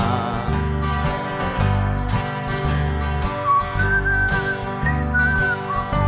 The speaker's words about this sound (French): On siffle!